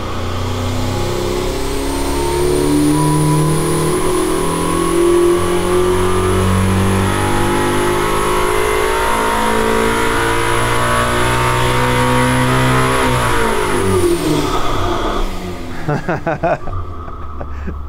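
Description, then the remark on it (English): A loud, powerful engine on a dyno roars continuously, its pitch climbing steadily as it revs hard under load for about fourteen seconds during a pull making about 1,050 horsepower on 95 fuel, then drops off sharply as the throttle closes and it winds down. “That was a pull. I think it was over 1,000 horsepower.”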